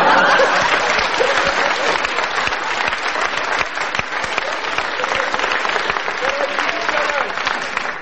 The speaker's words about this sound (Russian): Я очень рад, что вы встречаете меня аплодисментами. Это залог того, что я был прав тогда.